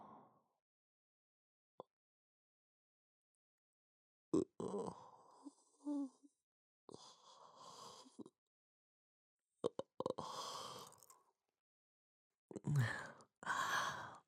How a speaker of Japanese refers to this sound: ごめん、あくびが出ちゃった。あれ君も眠たくなってきた。僕のあくびが映ったのかな。